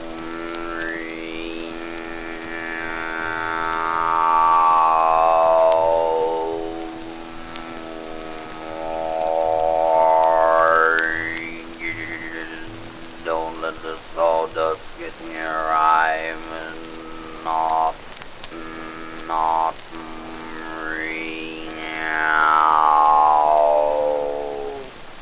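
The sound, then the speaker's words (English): A voice imitates a newly built sawmill running: a buzzing, harmonic whine that rises and falls in four long sweeps, with rough sputtering bursts between them and no words spoken. “Oh, it's pretty noisy now since they built that new sawmill. All you hear all day is this.”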